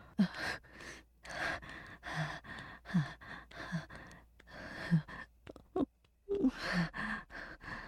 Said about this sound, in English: Am I panting?